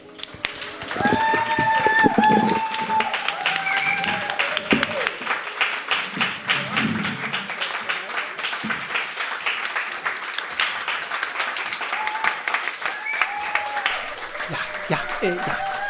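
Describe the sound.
A large audience at a live show in Innsbruck applauds steadily, a dense wash of clapping that stays loud throughout, with scattered voices and brief cheers audible within the crowd noise.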